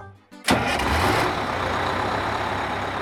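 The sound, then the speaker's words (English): The engine of a big red bus turns over after a brief pause and settles into a loud, steady rumbling idle, with a broad mechanical hiss over the low throb and no voices. “It was the big red bus.”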